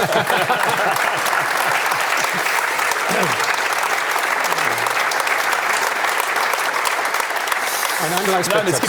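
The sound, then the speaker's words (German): Steady audience applause, a dense wash of clapping that stays loud and even for the whole stretch, with faint voices murmuring underneath. “Es gibt für mich noch einen Applaus wäre jetzt angebracht.”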